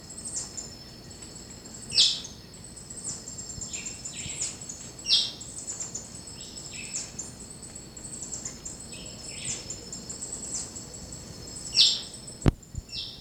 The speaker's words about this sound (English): And that's the hopping dick, white chin thrush. The harsh chirp.